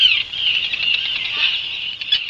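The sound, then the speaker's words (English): A newborn puffin chick at Channel Islands National Park in California, picked up by a live cam, peeps in a steady, high-pitched stream of thin chirps lasting a couple of seconds, fairly loud and unbroken, with no voices present. “Sound of newborn baby puffin broadcast through a live cam there.”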